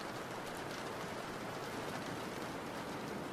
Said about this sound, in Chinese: 奇怪，这雨突然下这么大，谁不知道还要下多久？天气预报明明没说下雨，好不容易咱俩出来爬山，咋失败了？